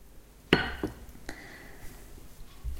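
wine glass clinking

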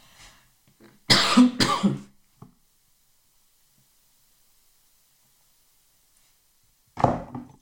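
cough and throat clearing

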